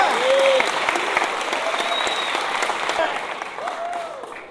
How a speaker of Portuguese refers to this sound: Obrigado, mais uma salva de palmas.